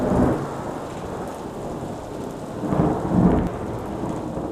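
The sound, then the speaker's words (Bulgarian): A thunderstorm near Carthage: steady rain hisses throughout while low, rumbling thunder rolls in twice, first at the start and again more strongly near the end. No voices. “Извива се нечувана буря.”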